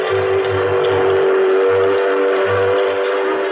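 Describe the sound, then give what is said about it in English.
A steam locomotive whistle blows one long, steady, loud tone throughout, over a broad hiss and a low, uneven rumbling chug underneath. No voices. “And a fella called Stevenson over in England or somewhere started pulling whole wagon trains with one of them steam dinguses. A locomotive, he called it.”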